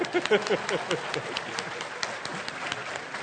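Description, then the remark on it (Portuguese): An audience claps steadily, a dense patter of many hands with a few louder bursts near the start, then evening out into continuous, moderately loud applause. “The Lord and my wife deserves all the applause.”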